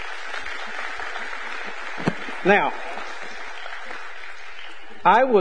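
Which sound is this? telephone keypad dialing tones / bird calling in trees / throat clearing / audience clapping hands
audience clapping hands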